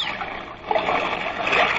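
A heavy splash as a person falls overboard into water, followed by continuous sloshing and churning water that fills the short clip. No voices.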